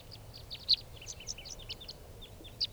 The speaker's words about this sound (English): Calling more, now coming back. And now they're all five are down on the ground. Recording these are the wild birds.